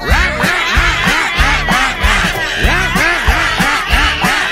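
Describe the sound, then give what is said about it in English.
A voice imitates a parrot or cockatoo squawking in a song about making animal sounds, with harsh, nasal squawks repeated rapidly and loudly, about two per second, over a steady low rhythmic backing. “Or squawk like a parrot or a cockatoo.”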